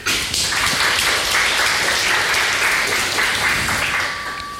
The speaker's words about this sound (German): Ein Applaus.